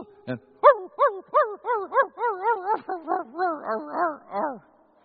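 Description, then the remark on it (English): A dog barks in a quick, steady run of about fourteen high, tonal yelping barks, fairly loud, with no talking over them. “my brother-in-law came over with his mountain dog. Bernese mountain dog. Beautiful dog. Big dog.”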